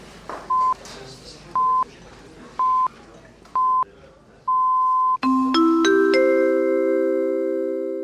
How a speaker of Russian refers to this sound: Таймер через 5 секунд.